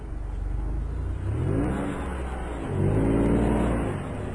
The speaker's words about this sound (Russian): Через некоторое время машина выбралась на ровную дорогу. Папа Давида прибавил скорость, и они быстро поехали сквозь тьму, слушая ровное урчание двигателя.